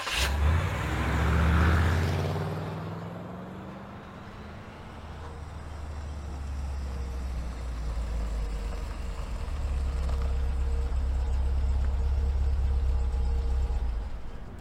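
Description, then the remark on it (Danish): A car engine revs up, its pitch climbing over the first couple of seconds, then settles into a steady low rumble as the vehicle drives off. No voices are heard. “Kører.”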